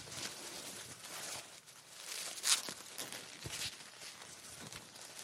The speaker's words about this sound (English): And this one, this one here is just another rustling sound. It's more like fabric rustling.